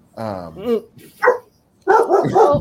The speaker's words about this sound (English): Sorry. Oh, I got the dogs going.